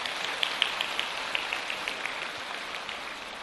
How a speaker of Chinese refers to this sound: 让我们再一次用掌声感谢深圳的三位小同修。